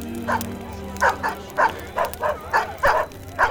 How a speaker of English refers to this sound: Raven Hunter's heart swelled in elation and relief as a pack of dogs suddenly raced out into the growing darkness toward him.